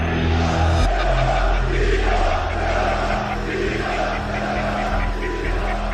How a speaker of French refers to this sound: Des dizaines de milliers de drapeaux s'agitent au-dessus de la foule. Sur scène, Recep Tayyip Erdogan, comme indifférent, laisse hurler ses partisans sans les interrompre.